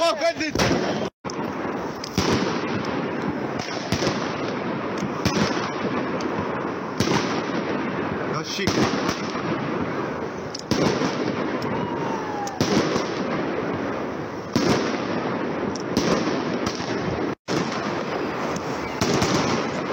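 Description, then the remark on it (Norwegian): Fireworks burst continuously among cars, with motorists caught in them, outside a gallery where buses depart: a dense barrage of sharp cracks and booms layered over one another for the whole stretch, loud and chaotic with hardly a pause. “Ja, hva tenkte de bilistene som ble fanget i dette fyrverkeriet?”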